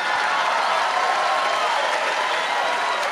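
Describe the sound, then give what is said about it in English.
An audience, its older members applauding, claps steadily throughout, a dense, even wash of many hands that keeps up a constant loudness with no break or buildup, with a faint murmur of crowd voices underneath. “Now the old people are applauding.”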